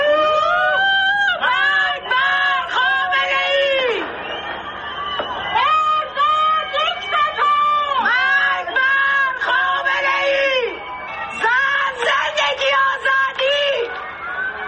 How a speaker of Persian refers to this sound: همزمان با تحویل سال در بسیاری شهرهای ایران از جمله تهران فریاد اعتراض مردم هم از پشت بام ها یا پنجره های خانه هایشان شنیده شد. صدایی از شهرک چیتگر.